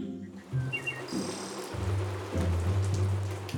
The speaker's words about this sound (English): The rain falls. It is rainy. The rain gets bigger.